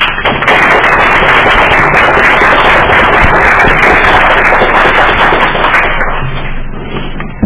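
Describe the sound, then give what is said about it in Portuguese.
A round of applause from a group in a city council session after a bill is approved unanimously, a loud, dense crackle of many hands clapping at once that holds steady for about six seconds before tapering off, with no voices over it. “Aprovado por unanimidade, então vamos fazer uma salva de palmas.”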